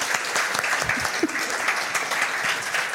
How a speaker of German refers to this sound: der Applaus ist deiner. Danke für die Sketchnotes.